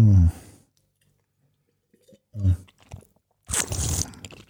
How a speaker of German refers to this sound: Das kannst du aber auch richtig gut, ne? Was, das Schlürfen? Mhm. Oh, ich liebe es.